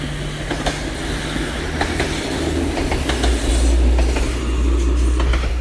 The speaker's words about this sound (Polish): Mijam tory, Jedlina, czerwony szlak idzie takim fajnym mostkiem nad torami kolejowymi, a mija nas pociąg.